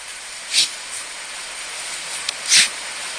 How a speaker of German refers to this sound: Hast du es gehört? Ja, es klingt eher, als hätte der Hund eine Erkältung oder so und ist am Niesen, oder? Exakt, die niesen. Also die fangen an zu niesen, wenn sie Bock haben, jetzt jagen zu gehen.